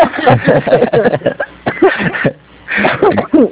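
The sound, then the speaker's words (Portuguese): A woman coughs in rough, repeated bursts, fairly loud with a muffled phone-line quality, pausing briefly before another short fit of coughing. “Ó, cuidado com essa tosse, hein, mulher?”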